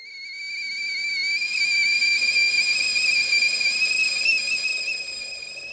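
A kettle heating water for tea whistles on the stove, a steady, piercing high-pitched tone that swells in the first seconds, then holds with a slight waver before easing off a little. No voices.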